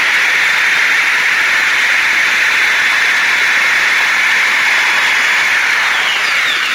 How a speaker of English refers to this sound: I'm going to take the actual thing, the spacer, and try to drill it.